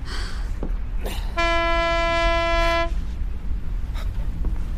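A ship's horn sounds one long, steady blast of about a second and a half as a fog signal to warn other ships, a bright, buzzy mid-pitched tone over a low, rumbling background, with no one speaking.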